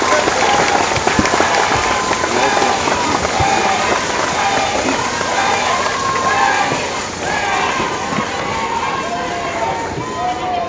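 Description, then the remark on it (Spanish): Loud, dense applause from a large crowd at a political event in Oaxaca, for the local candidates, with shouts and cheers mixed in, holding steady for about eleven seconds before easing slightly toward the end. “Pero sí un aplauso fuerte para todas, todos ellos.”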